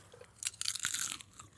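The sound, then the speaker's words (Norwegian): Crunchy chewing of food, a rapid series of crisp, bright crackling bites over about a second, loud and dry against a quiet background with no talking. “Har vi funnet en nytt program til Radio Revolt? ASMR-program.”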